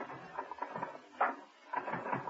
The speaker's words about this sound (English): To his amazement, Steed found himself gazing at a long line of typists, all typing away at envelopes, throwing them into growing piles in their delivery baskets.